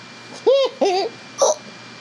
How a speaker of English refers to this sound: Lord, that just gave me the hiccups.